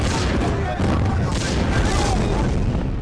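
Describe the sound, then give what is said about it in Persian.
Enemy mortar shells explode one after another on the roof of a bunker and around it in a dense, unbroken barrage. Heavy booms blur into a loud, constant roar of rumbling blasts that barely lets up over a few seconds. “خمپاره‌های دشمن یکی پس از دیگری بر سقف و اطراف سنگر فرود می‌آمد.”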